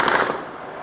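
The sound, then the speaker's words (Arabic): A dense, rapid crackle of heavy machine gun fire from warplanes of Assad's forces flying over Al-Qaryatayn in Homs, Syria, firing on residents, houses and cars, sustained through the whole moment, loud at first and easing slightly, with no voices. “أما في منطقة القريتين في حمص فقد تمكن شهود العيان من تصوير تحليقات لطائرات حربية لكتائب الأسد في سماء المنطقة، ما لبثت أن فتحت وابل رشاشاتها على الأهالي والبيوت والسيارات.”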